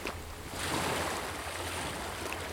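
Steady outdoor water ambience at the Alte Donau (Old Danube) in Müllschüttel, a soft continuous wash of lapping water and breeze with a faint low rumble of boats, including sailboats, swelling slightly after a quieter start, no voices.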